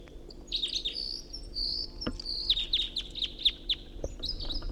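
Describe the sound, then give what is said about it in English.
Two wild birds sing, one right overhead and the other in a tree above a net: a quick, high-pitched run of chirps and trills with the second bird's notes overlapping, plus a couple of sharp clicks; steady faint background hiss, no talking. “Got two singing birds here.”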